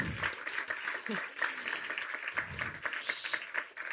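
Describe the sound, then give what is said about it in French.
Audience applause, a dense steady patter of many hands clapping at a moderate level for several seconds, with a few voices faintly mixed in. “Alors, vous voulez applaudir ?”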